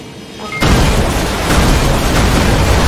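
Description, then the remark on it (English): A video game plane crash explosion: after a brief quiet hum, a sudden loud blast erupts into a sustained, rumbling roar of crackling noise that stays heavy until the end, with no voices. “The plane goes crashing down.”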